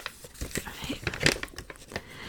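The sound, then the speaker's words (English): Soft crinkling and rustling of paper being creased and handled while folding an origami paper crane, folded crossways, with a few sharper crackles as it's folded, a faint breathy voice in the background. “So you fold it crossways.”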